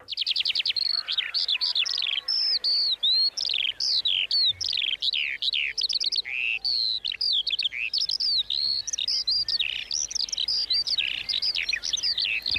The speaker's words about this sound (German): So, bei der nächsten Frage möchte ich gerne von euch wissen, wie viele Feldlerchen hört ihr hier? Was denn? Sind's wieder mehr als 6, oder? Ja, wir hören mal, was die Feldlerchen so tun.